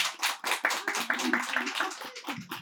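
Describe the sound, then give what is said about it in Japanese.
An audience breaks into applause, many hands clapping in a dense, steady patter that carries on throughout at moderate volume, with a few faint voices mixed in near the end. “それではもう一度拍手をお願いいたします。”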